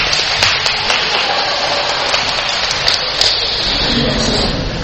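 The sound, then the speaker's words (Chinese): A crowd applauds steadily, a dense, even wash of many hands clapping at once with a few sharper claps standing out, sustained for about five seconds with no voices. “我要鼓掌一下啊、哦，对啊。”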